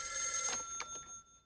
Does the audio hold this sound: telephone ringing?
yes